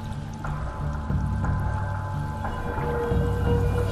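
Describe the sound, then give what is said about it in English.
A loud, sustained underwater scream from a predator beneath a shoal of sand eels off New England and eastern Canada, driving the fish upwards: a low droning wail with steady tones, layered over bubbling water and faint pulses recurring about once a second. “Beneath the shoal, a scream, louder than a jet engine, pierces the water, driving the fish upwards.”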